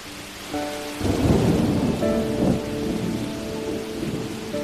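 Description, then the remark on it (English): Steady rain patters down while a deep rumble of thunder rolls in and swells, loud, then lingers as a low grumble beneath the continuing downpour. “And then the rain began.”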